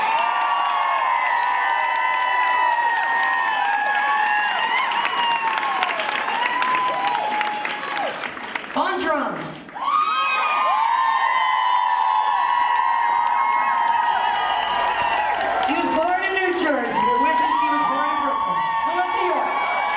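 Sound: audience applause and cheering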